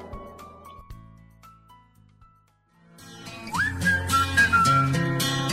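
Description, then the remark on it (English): A few soft, sparse notes give way to a full pop backing track, over which a bright …d melody rises and carries a short catchy hook, loud and up front. “今天为大家推荐的歌曲便是来自于 … 的 … 口哨，很好听的口哨声”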